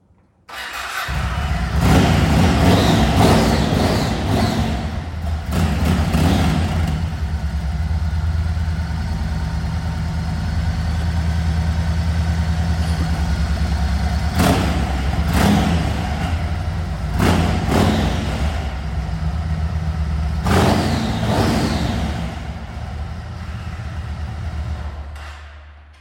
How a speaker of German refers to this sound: Ich weiß nicht, was das mit dir macht, aber 1700 Kubikzentimeter am Sonntagmorgen klingt doch cool, oder?